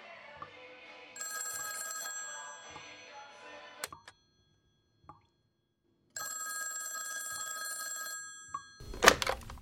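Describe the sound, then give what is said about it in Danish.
A telephone bell rings in an apartment in the morning, in two long, trilling bursts separated by a short silence, fairly loud, followed by a brief clatter at the end. “Og der tror jeg, at telefonen ringer.”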